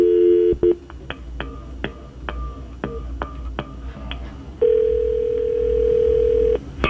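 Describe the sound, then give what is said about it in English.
A telephone dial tone hums briefly as a GX94 radio host calls the morning's Country Thunder Platinum Experience contest winner, then about ten quick keypad beeps tap out a number at an uneven pace, followed by a long, steady electronic tone lasting about two seconds. “Well, it's time to contact our winner of the Country Thunder Platinum Experience, and let's give her a call here this morning.”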